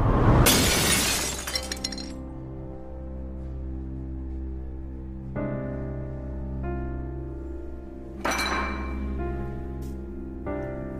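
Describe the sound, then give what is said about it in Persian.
In an in-person visiting room, a water pitcher a man is pouring from falls off the table and shatters in a loud, bright burst at the start, then low sustained tones hum steadily, with a second sharp crash partway through. No one speaks. “حامد برای خودش آب میریزه. پاش از روی میز پرت میشه پایین.”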